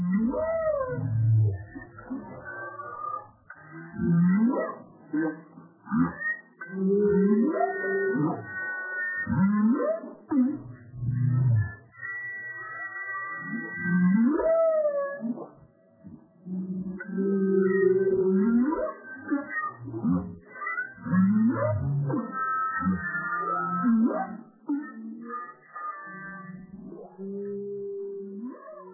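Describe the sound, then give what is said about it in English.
Whale calls from recordings bent in the studio: a steady flow of low moans and rising, falling squeals that overlap and repeat throughout, sounding full, with a slightly altered, processed quality and no voices. “The rest is me either playing live with whales out in the fields or playing with recordings of whales in the studio and bending them in the usual way.”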